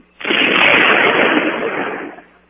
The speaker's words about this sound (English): Walter, what in the world have you put in that cannon? It was just sort of a giant firecracker, Miss Brooks.